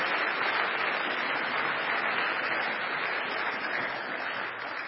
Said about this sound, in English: Let's have a round of applause for Linvoy Primus who's joined us.